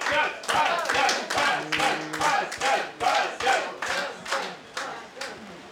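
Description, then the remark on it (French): A crowd claps steadily in unison to encourage a singer about to perform, about two claps per second, with loud bright hand claps over a murmur of voices and scattered cheers for the whole stretch. “Applaudissez-le bien fort, s'il vous plaît.”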